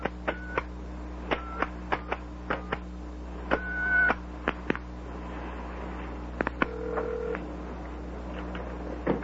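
A telephone number being dialed: about a dozen short touch-tone beeps in a quick, uneven sequence, clear over a steady low hum, with no one speaking.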